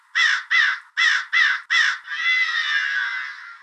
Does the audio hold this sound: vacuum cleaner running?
no